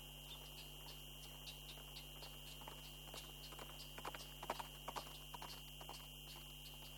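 horse hooves clip-clopping

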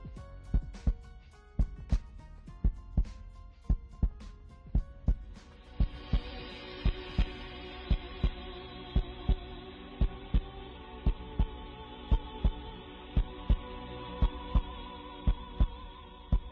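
heartbeat sound effect

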